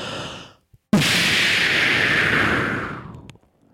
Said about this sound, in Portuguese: Bombinha de fumo.